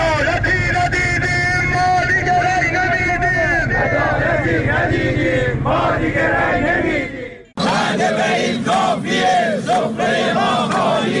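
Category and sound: crowd, protest crowd shouting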